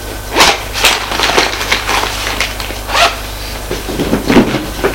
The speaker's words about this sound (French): La voilà qui déballe ses affaires.